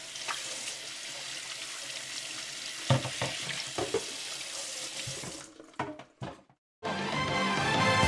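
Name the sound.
water running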